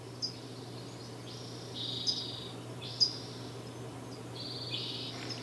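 A hushed spring woodland at Sugarloaf, recorded on April 15, 2015, almost silent with no wind and the stream dried up, with a few faint high-pitched bird calls coming in short, sparse bursts over a low, steady background hum.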